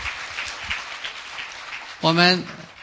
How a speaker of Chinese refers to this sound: 我们当中还有一位吗？我看又要一位，我们为他鼓掌哈！感谢主哈！